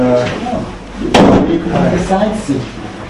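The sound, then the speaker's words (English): A door that needs a push is shoved shut with one loud slam about a second in, its rattle briefly lingering, while people talk before and after. “You have to give the door a zet.”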